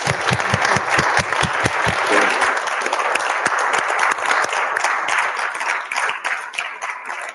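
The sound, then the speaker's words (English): An audience applauds steadily for several seconds after a guest shares their desert island discs, a dense wash of many hands clapping with sharp individual claps punctuating it, staying loud throughout before thinning slightly at the end. “So, and applause for.”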